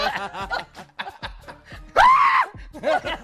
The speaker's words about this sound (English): I love the … scream. Yeah, I know. He scream.